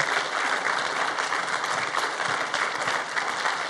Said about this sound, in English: Anyway, hey, if this is your first time visiting us here at Seaport, we just want to welcome you. And we do that around here by just honoring you. And we just want to clap for you and welcome you to Seaport.